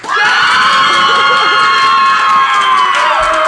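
A crowd of children cheers and screams loudly for several seconds, a sustained high-pitched roar of many voices that holds steady before tapering at the end.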